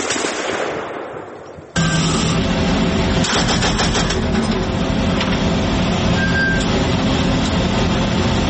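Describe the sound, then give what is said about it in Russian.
A heavy-calibre machine gun on an armored vehicle fires loud bursts of rapid shots at set targets toward Russian positions after the vehicle stops, over a constant rumbling engine, the clatter dense and continuous after a brief fading noise at the start. “Эдуард постоянно смотрит в прицел крупнокалиберного пулемета. Неожиданно машина останавливается, стрелок дает очередь.”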